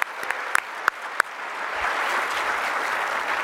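A round of applause: a few sharp, separate claps at first, then a dense, steady wash of clapping from a crowd that holds at moderate loudness.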